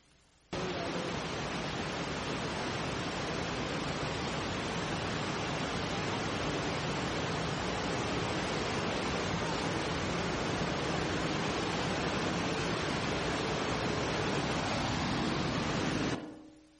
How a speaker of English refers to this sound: How many of you have ever been to Niagara Falls? Okay. So the sound of Niagara Falls, like that's a lot of rushing water, right? Is 100 decibels. This is possibly what it could sound like.